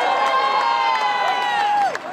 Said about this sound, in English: People still shouting and cheering the riders.